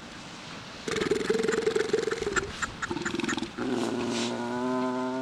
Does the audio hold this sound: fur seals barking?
yes